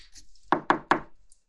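Three sharp knocks on a wooden door in quick, even succession, fairly loud, followed by quiet with no talking; arriving guests knocking at the door of a home.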